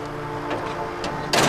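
A door is shut with a sudden loud, close slam near the end, cutting in over a steady low mechanical hum like an idling vehicle engine.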